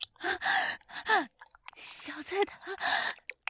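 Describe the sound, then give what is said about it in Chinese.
A mother pants heavily after tiring herself out tidying up: breathy panting in quick repeated bursts, fairly loud, with voiced gasping breaths in an irregular rhythm like someone badly out of breath. “妈妈没事，只是收拾的累了，有点喘气。”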